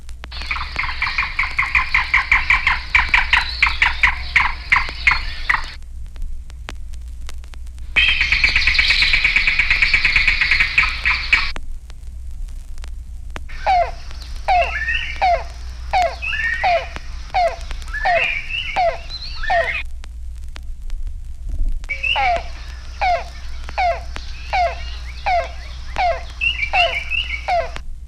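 A yellow-billed cuckoo, nicknamed Rain Crow, a shy woodland bird, calls in loud, rapid series of hollow, knocking notes, several bursts separated by short silences, one a steady rattling run, the others slowing into distinct clucks. No voices.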